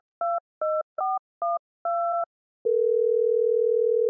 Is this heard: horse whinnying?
no